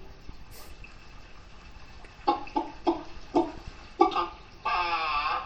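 A small bird calls in about six quick, clucking chirps, then finishes with a longer, wavering call. No one speaks, and the background is quiet.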